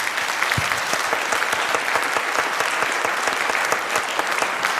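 Loud, sustained applause from a large audience for a speaker at the end of a talk, dense rapid clapping filling the whole stretch at a steady level with no voices standing out.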